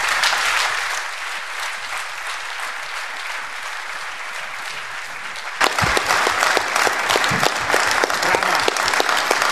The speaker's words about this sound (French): Je crois que vos applaudissements sont une réponse claire.